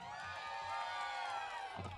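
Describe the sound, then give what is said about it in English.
A large audience cheers and whoops continuously, making noise for themselves at the host's call, a dense wall of overlapping shouts and high yells filling the whole stretch at a steady level. “How are you all feeling out there? Make some noise for yourselves.”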